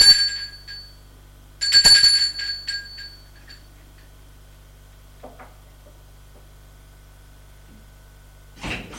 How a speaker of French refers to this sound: Il monte jusqu'au troisième étage par les escaliers de pierre usés. Sonne à la porte de gauche.